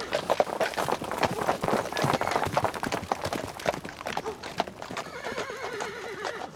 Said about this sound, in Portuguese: Esse monte de cavalo chegando. Tá dando pra ouvir?